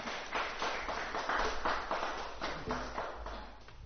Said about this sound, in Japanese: 今日朝、この朝は許しに生きる生活と題して御言葉をお取り継ぎいただきます。大きな拍手を持ってお迎えしましょう。